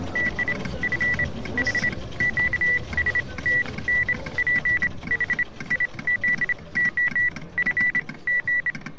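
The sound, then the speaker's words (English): A high, steady Morse code tone keys on and off in quick short and longer bursts for the whole stretch, riding over a low, rumbling background noise with no voices. “After a 48 hours competition, sleepless competition, with all the hallucinations that follow, I keep hearing Morse code even when I'm awake.”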